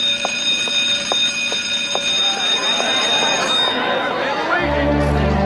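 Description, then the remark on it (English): A shrill electric school bell rings steadily for about three seconds while a crowd chatters underneath; the ringing cuts off and the noisy hubbub of many voices carries on, joined by a low hum. “And look how fast the bell rings, and look how fast everybody just comes out.”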